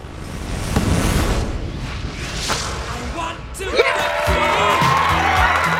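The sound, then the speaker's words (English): A football crowd roars and cheers in a dense, noisy swell for about three seconds after a penalty is blasted into the net and Elm Forest win, then steady pitched, sustained tones rise over the fading din. “The Elm Forest players curtsy as the crowd go wild.”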